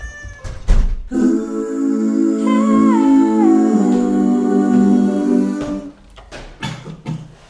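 A cat lets out one long, drawn-out meow that rises and wavers in pitch, loud, bracketed by a few dull knocks and thumps before and after.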